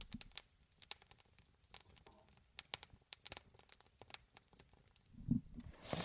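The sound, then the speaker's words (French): A wood fire crackles steadily in a fireplace, with irregular sharp pops and snaps scattered over a soft low rustle, growing a bit louder and fuller toward the end. No one speaks. “Tenez, je vous fais kiffer un petit peu le crépitement du feu parce que ASMR.”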